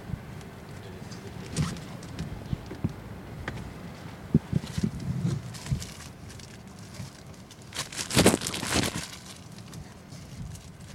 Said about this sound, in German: Ich habe gesagt, ein bisschen windig im Hintergrund.